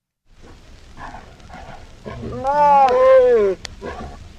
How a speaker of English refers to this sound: The title of this this file is Tiger Copulation.